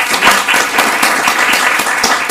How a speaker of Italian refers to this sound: Dario Tonani, buon applauso.